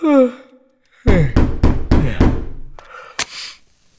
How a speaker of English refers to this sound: But it wasn't an hour into the night before there was a racket in the hall and then some thundering on my door.